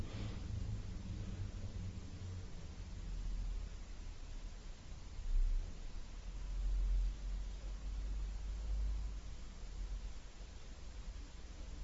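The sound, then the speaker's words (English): A truck passes by outside, a steady low rumble that swells over several seconds and then eases off, set against a constant hiss with no voices. “Now a car is coming. Or better, a truck.”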